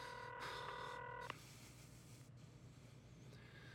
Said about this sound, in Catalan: Despenja l'auricular del telèfon i marca un número.